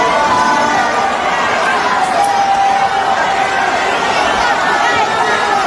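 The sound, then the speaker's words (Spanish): A dense, loud crowd commotion: many voices shouting and chattering at once in a continuous uproar, with no pauses and a steady, agitated roar throughout. “No se escucha los gritos de él, pero usted va a ver el alboroto de la gente y luego vienen las declaraciones de Maluma.”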